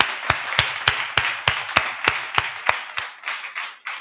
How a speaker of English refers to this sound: Let's clap to the Lord.